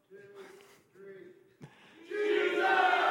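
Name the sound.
audience shouting in unison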